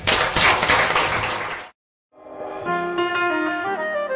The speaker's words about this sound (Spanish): Quiero, por favor, en este acto de amor hacia la diversidad, por favor, que nos demos un aplauso para nosotros mismos.